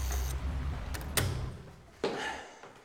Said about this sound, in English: Push the door. Have you pushed the door? Yes, thank you.